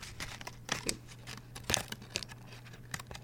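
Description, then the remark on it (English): The crinkly plastic wrapper of a chocolate bar being peeled open, a run of sharp, irregular crackles and rustles with a few louder snaps around the middle, no voices. “Then you unwrap the chocolate at home.”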